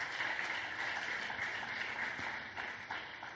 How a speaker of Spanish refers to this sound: Dele una ofrenda de palmas al Dios de la gloria.